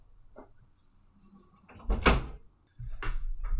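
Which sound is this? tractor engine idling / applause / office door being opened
office door being opened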